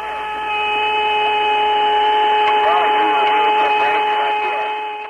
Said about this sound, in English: Boy, that sure is weird music. No. It's a whistling, you know, like an outer space type thing.